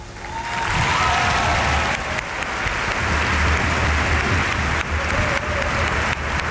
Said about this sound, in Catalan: Aplaudeix, Pere Romeu.